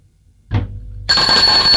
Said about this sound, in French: On a sonné à la porte.